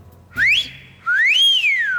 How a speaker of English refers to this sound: So what do you use? The stadium whistle? You got it.